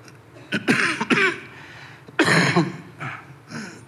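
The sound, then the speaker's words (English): A loud coughing fit: several harsh coughs in uneven bursts, with short pauses and a throat-clearing rasp between them, and no talking. “It's good to have this handheld mic when you have a coughing fit.”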